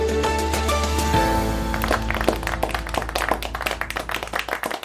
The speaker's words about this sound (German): So ähnlich mag es geklungen haben. Am Ende gab es Applaus und ein gemeinsames erleichtertes Aufatmen bei den teilnehmenden EU-Finanzministern.